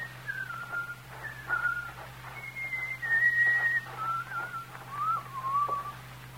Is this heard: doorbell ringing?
no